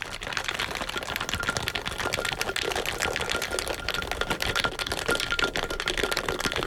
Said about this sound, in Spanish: Lo que buscamos ahora con el shakeado es agitarlo, mezclar todos los ingredientes